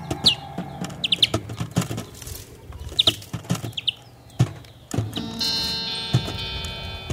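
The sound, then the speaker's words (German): Short, high chirps from wild greenfinches, a parent feeding its young while both perch on guitar strings in an apartment room, come in quick clusters, mixed with soft knocks and rustling. Near the end a twangy, sustained guitar-string tone rings briefly beneath the chirps. “Dieser Elterngrünling schnäbelt das Kind und sitzt dabei auf den Gitarrenseiten.”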